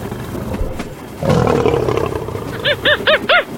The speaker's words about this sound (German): der Affe.